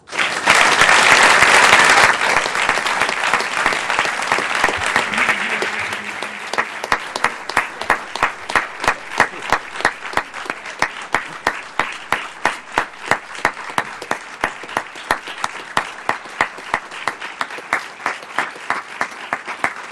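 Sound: audience applause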